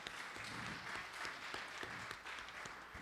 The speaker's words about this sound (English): Let's give the Lord another hand clap of praise for all he's done in your life.